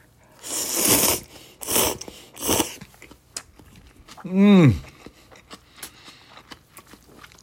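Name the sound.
chewing food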